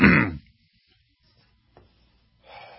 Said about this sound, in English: For some reason, coffee just doesn't seem to stop you from coughing.